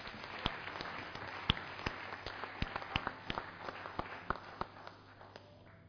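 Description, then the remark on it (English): An audience claps together as a clap offering to the Lord for his protection, a dense steady patter of many hands with sharper individual claps popping out irregularly, sustained for several seconds and tapering slightly at the end. No one speaks. “We just want to give a thunderous clap offering to the Lord for his protection.”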